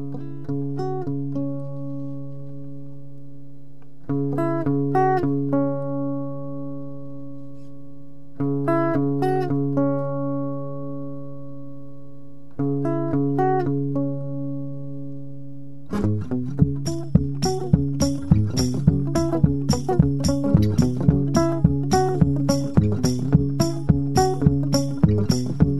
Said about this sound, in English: We've got the gear. Yeah. We've got you. We've got a guitar. That's it.